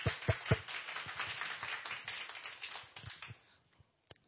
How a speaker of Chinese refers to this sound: 我们拍手欢迎他。